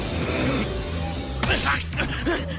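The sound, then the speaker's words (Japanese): A couple of sharp, thudding punches land in quick succession during a boxing sparring session, over a steady background hum, with faint murmuring voices in the mix. “なるほど、いいパンチだ。”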